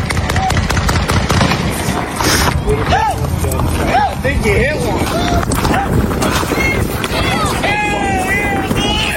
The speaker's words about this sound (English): In this clip published by AP, contractors erupt in cheers as shots ring out. At that moment, bursts of gunfire erupt close by, at least 15 shots.